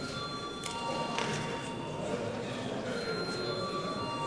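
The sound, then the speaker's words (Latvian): A parliament voting bell rings continuously for several seconds, called before deputies vote on a draft decision, a steady metallic, high-pitched ringing with a dense rattling texture and no pauses or talking over it. “Lūdzu zvanu.”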